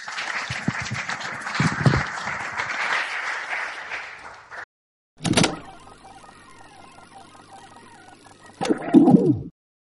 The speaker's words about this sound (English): Folks, give him a round of applause.